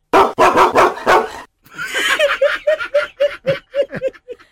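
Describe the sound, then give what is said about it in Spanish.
The dog Rocky barks loudly: a few harsh barks first, then a quick, steady run of about ten high, yelping barks that trail off slightly at the end. “Aquí está la reacción de Rocky.”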